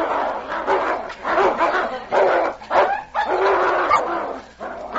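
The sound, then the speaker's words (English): A loud scuffle of a dog fighting a timber wolf in a forest, snarling, growling and barking in rough overlapping bursts, with yips and harsh throaty bursts filling the whole stretch without pause. “The timber wolf turned and bared his fangs. The King launched himself at his throat with a roar of defiance.”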